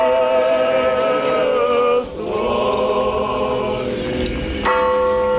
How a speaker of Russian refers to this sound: Под колокольные благовесты пение пасхальной стихиры верующие обходят храм.